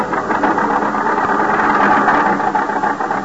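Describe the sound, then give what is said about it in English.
A small car engine drones steadily as the little car lurches and bounces to keep to the center of a highway, a continuous mid-pitched hum with rumbling vibration and road noise, no pauses and no voices. “The little car lurches and bounces in its bite to keep the center of the highway.”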